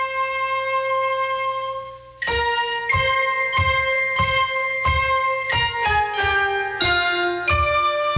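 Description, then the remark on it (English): A love song heard on the radio in the 1963 film Love with a Proper Stranger: a sustained ringing tone gives way to a brisk, steady run of bright struck bell notes with twangy plucked banjo strings, fairly loud, with no voices. “It's all about bells and banjos ringing.”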